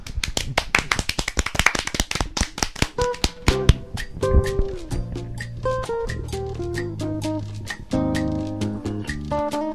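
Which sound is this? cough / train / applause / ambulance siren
applause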